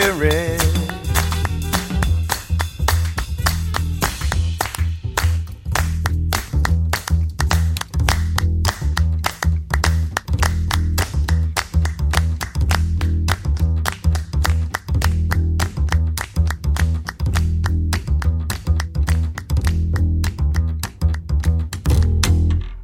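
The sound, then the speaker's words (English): A soul-jazz vocal song, the title track of a 2013 album, with sharp handclaps beating out a steady rhythm over a deep, driving bassline, loud and continuous throughout with no break. “That was a title track from the album back in 2013 on Blue Note.”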